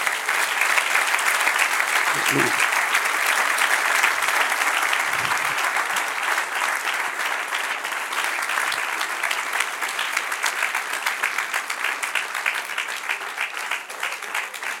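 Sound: audience applauding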